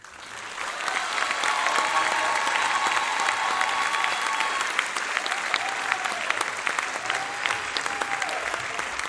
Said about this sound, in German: Vielen Dank für diesen schönen Applaus.